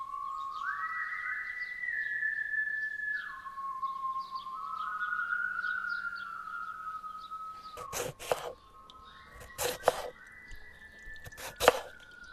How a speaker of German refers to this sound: Komm, das reicht mit den Pflaumen. Lass mal schnippeln.